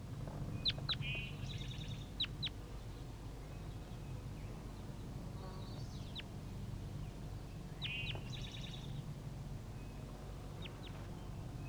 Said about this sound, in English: Start recording the juvenile birds.